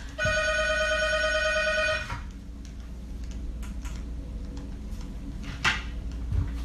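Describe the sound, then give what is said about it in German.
A telephone in a hotel room rings steadily for about two seconds, a bright trilling electronic tone, then cuts off, leaving quiet with a low hum and a few small clicks and rustles. “und jetzt läutet gerade das Telefon.”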